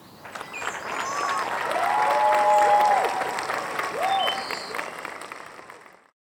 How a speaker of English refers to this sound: The entire group of Americans spontaneously clapped to his speech.